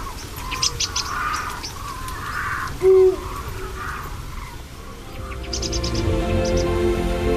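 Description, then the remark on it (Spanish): Deep, low hoots of Eurasian eagle owls calling at night at the Portilla del Tiétar on a rainy autumn evening, a few spaced calls carrying over a steady nocturnal background with faint, high chirps of other birds scattered throughout. “Y con la noche los búhos reales lanzan su llamada.”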